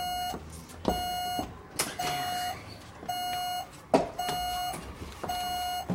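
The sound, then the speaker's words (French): A photocopier set up on a landing sounds its paper-jam alarm, beeping repeatedly in short steady electronic tones, evenly spaced, with mechanical clatter and clicks from the machine between them and no talking. “Oh, excuse-moi, j'ai un bourrage papier.”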